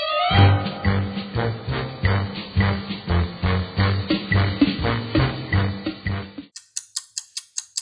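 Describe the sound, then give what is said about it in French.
A musical Morse code pattern spelling the letters M and I, the initials of Mission Impossible, in two long and two short notes: steady pulsing chords hammer out a rhythmic figure, then a short run of rapid, high-pitched beeping ticks closes it. “Saurez-vous trouver quel message se cache derrière ce code morse musical ?”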